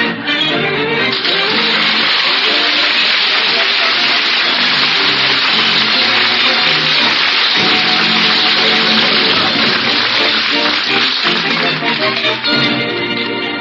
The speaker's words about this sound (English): What is he doing? Right now he's washing dishes.